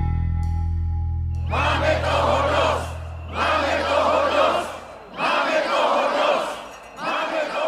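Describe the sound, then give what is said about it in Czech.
A large outdoor crowd of demonstrators protesting on Sunday on Old Town Square in Czechia in defense of democratic institutions roars and chants in repeated swelling waves, each burst lasting a couple of seconds with brief dips between, loud and dense with many voices together. “demonstranti z Milionu chvílek pro demokracii, kteří v neděli protestovali na Staroměstském náměstí za obranu demokratických institucí v Česku”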